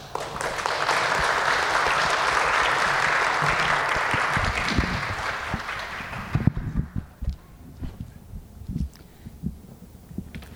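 A room full of people claps steadily for about six seconds, a dense wash of applause that then cuts off, leaving scattered knocks, shuffles and movement noises.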